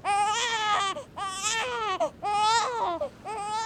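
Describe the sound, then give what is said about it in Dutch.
A crawling baby, Telemachos, son of Odysseus, laid in front of a plough, wails in four strained, high-pitched bursts separated by brief gasping pauses, loud with no other voices. “En dus pakte hij de kruipende baby, Telemachos, Odysseus zijn zoon, en legde deze voor de ploeg.”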